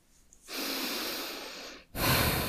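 A loud breath drawn in for about a second and a half, then a brief pause and a sharp, forceful exhale, heavy and airy with no talking.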